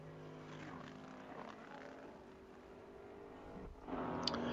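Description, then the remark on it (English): A Mazda race car engine drones with a steady, buzzing tone that shifts pitch as it runs on the track at Watkins, then swells louder and rougher near the end. No one speaks. “Mazda out on the track right now is fifth fastest.”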